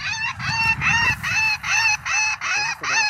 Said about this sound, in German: Krähenkiste, oder? Zufallsgenerator spielt jetzt verschiedene Rufe ab.